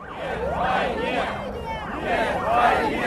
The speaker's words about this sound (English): At a gathering of anti-war protesters on Sunday, a crowd of several hundred milled outside Russia's defense ministry chanting, "No to war."